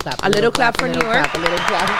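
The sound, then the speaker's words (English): A handful of sharp hand claps land in a loose rhythm, applauding New York, mixed in with a voice talking loudly over them. “A little clap for New York.”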